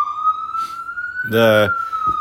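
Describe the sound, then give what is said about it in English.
An ambulance siren wails steadily outside in a big city, a sustained high tone rising slightly in pitch as it passes, with a brief burst of voices talking over it midway. “That's an ambulance. An ambulance coming right now for my bankroll.”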